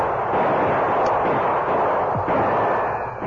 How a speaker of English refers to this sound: The outlaws were between Bert's gunfire and that of the Lone Ranger and Tonto.